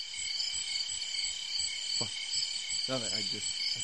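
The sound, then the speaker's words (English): A steady chorus of crickets chirps continuously at moderate volume, with a couple of brief, muffled voice-like sounds rising faintly underneath. “That sounded like crickets to me.”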